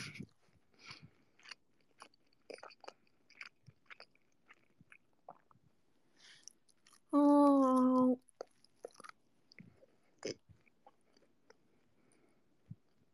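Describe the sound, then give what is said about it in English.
Chewing with irregular wet crunches and smacks throughout, interrupted once midway by a short, loud whining tonal sound lasting about a second. No talking. “I didn't expect you guys to be able to hear me chewing.”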